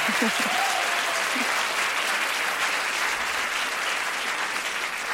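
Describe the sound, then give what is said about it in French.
A thin smattering of clapping from just two people, steady and fairly loud throughout, with a brief murmur of voices at the very start. “Merci deux personnes d'avoir applaudi, ça me touche beaucoup.”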